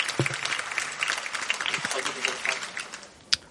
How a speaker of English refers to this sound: Let's give them a roll of applause.